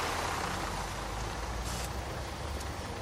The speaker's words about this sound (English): Aha! Here's the bus. Let's go!